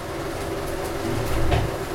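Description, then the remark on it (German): Money counting machines running hot in a bank in Cotonou, with a steady, dense mechanical whir and rattle, a few brief sharper clicks breaking through and the noise swelling slightly toward the end; no one speaks. “Ja, das, was man hier im Hintergrund hört, das sind die Geräusche der Geldzählmaschinen, die da gerade so ein bisschen heiß laufen.”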